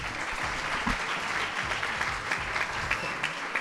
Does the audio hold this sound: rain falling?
no